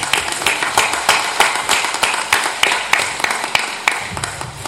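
An audience applauds steadily for the guests from Körmend, many hands clapping in a dense, bright patter with sharper individual claps standing out, lasting the whole stretch at a fairly loud level with no voices.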